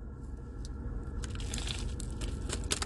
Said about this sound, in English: So, we're going to go ahead and bite into this and see what we think about the new Naked Chicken Chalupa making its triumphant return after 5 long years.